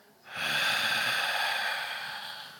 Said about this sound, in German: und legt seinen Kopf nieder und atmet aus.